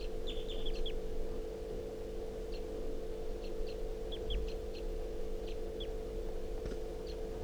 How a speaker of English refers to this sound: The wild bird just flew over the net and came close, chittering on a swooping flight.